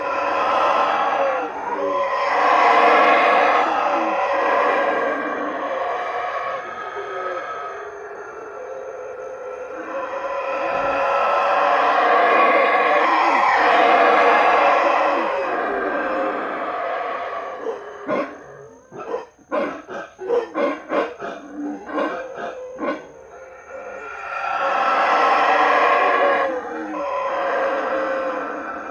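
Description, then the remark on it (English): Black howler monkeys, called baboons locally, roar at a baboon sanctuary in Belize in long, loud, rasping bouts that rise and swell, broken midway by a choppy run of rapid grunting barks before another sustained roar. No one speaks. “This next song we're going to hear is the sound of the black howler monkeys”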